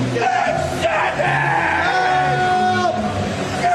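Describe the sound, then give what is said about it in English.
Several men yell "help me" loudly over a noisy crowd, their raised voices overlapping in sustained, strained shouts that fill the short stretch without pause. “Now some other guys yelling, help me.”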